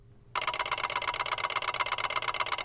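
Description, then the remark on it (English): A sci-fi pulse beacon relay receptor signal, a one-way space fax bringing in a message from Canaveral, cuts in abruptly after a moment of quiet: a loud, harsh buzzing chatter of rapid, evenly spaced pulses that holds steady to the end. “Pulse beacon relay receptor. Basically, one-way space fax.”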